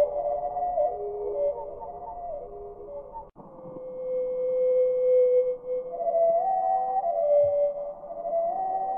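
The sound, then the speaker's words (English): A North American hermit thrush song slowed down, its phrases stretched into deep, pure, flute-like tones that glide and sustain one after another, with a brief break early on, steady and fairly loud throughout. “This is the North American hermit thrush. We're going to hear it at normal speed and then slowed down.”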